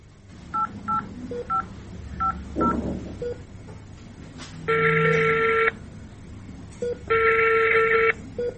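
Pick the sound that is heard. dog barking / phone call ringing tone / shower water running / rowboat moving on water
phone call ringing tone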